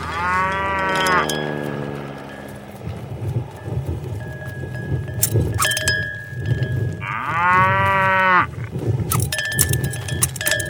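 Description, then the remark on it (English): A cow moos loudly twice, a long drawn-out bellow at the start and another about six seconds later, with low rumbling and scattered clatter in between. “now a cow who goes skydiving for the very first time and thinks his parachute isn't gonna open, but it finally does, 40 feet from the ground.”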